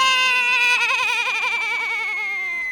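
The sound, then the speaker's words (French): A small ewe lets out one long, quavering bleat as it tumbles down a slope and hits a rock. The bleat is loud, its tone wobbling rapidly throughout before tapering slightly at the end. No one speaks. “La petite brebis débaroule la pente, se cogne à un rocher.”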